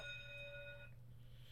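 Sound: school bell ringing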